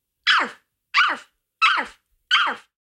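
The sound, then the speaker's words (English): A person barks like a dog four times in a steady rhythm, each bark loud and sharp, with brief silences between them and no other sounds. “Bark like a dog.”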